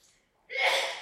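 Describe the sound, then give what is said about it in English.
One fairly loud sneeze: a faint breathy lead-in followed by a sudden, hissy burst that trails off over about half a second. “Bless you.”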